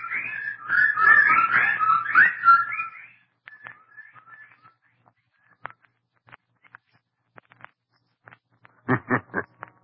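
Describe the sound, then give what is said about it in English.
A dense, shrill chorus of bird calls fills the first few seconds, thins to scattered faint chirps, then ends with three or four loud, sharp calls in quick succession. “The birds. They didn't get him.”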